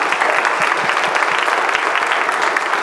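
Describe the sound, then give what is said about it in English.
An audience at a special worship celebration applauds steadily for the Wednesday night kids who took part, many hands clapping together in a dense, sustained wash of sound that holds at an even level throughout. “Yes, we'll clap for them.”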